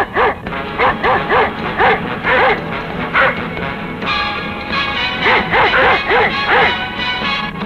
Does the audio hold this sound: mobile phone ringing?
no